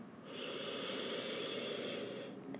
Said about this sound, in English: Breathing in deeply.